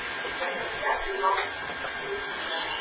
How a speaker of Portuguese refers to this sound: Pode ser, eu vou tentar desligar o ventilador, pode ser que ele está dando interferência, vamos tentar.